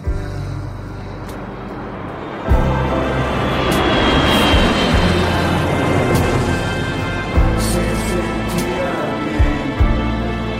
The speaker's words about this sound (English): The pilot of the airplane saying hi to the kids.